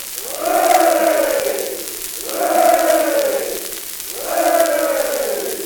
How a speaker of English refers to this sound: Three cheers for the general!